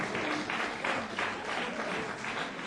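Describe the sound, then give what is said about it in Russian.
Sustained audience applause for contest participants at an event, a dense wash of many hands clapping steadily at an even loudness for a few seconds, with no one speaking over it. “Давайте еще раз поддержим аплодисментами.”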